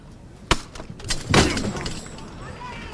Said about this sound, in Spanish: Tintinean las campanitas de las jarras delanteras.